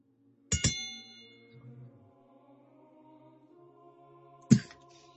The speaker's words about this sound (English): So is that the end of round, Bell?